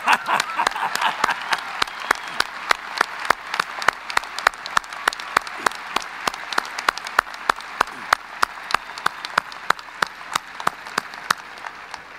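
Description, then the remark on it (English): An audience applauds mothers on Mother's Day for about twelve seconds, a dense wash of clapping that gradually thins into sharper, evenly spaced individual claps before fading. “Hey, you mothers, we want to clap you.”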